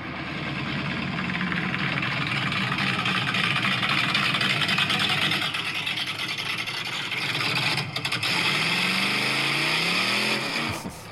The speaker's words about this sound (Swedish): Denna motorn har jag byggt alldeles själv. Det är fan sjukt. Jag kommer ihåg, jag visade det motorblocket i bak i Volvon.